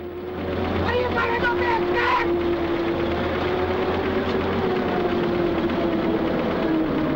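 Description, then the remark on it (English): A steady, droning engine rumble of a convoy of trucks driving through an open gateway into the Keene Fruit Ranch, holding a constant low hum throughout, with faint indistinct voices briefly rising near the start. “The convoy drives through an open gateway.”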